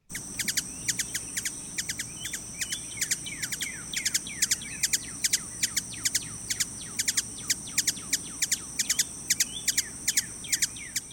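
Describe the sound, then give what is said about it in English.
Ruby-throated hummingbird calls: a long, irregular string of sharp, high chips and twitters, clear, with a cardinal faintly singing in the background over a low ambient hum. “Let's listen to the ruby-throated hummingbird.”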